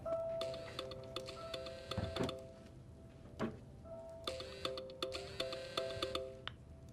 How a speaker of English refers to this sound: Phone reads, incoming call, Bradley.